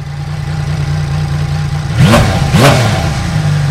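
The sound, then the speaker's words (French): The six-cylinder engine of a brand-new Norex VR6 motorcycle idles with a steady low hum, then is revved twice in quick succession, each short throttle blip rising and falling sharply before settling back to idle. “On l'écoute une dernière fois, ce 6 cylindres, pour le plaisir des oreilles.”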